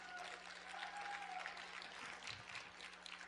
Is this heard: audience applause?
yes